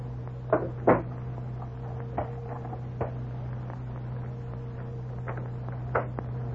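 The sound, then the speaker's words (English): Two doors are shut and locked: a couple of solid thuds followed by scattered latch and key clicks, over a steady low hum with no talking. “Did you lock both doors, Captain?”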